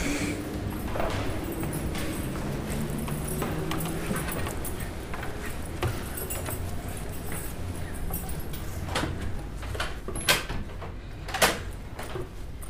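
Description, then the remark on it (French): A door leading to the outside is worked open amid steady background noise, with a couple of sharp knocks and clacks near the end as it moves. “Donc la porte qui donne sur l'extérieur.”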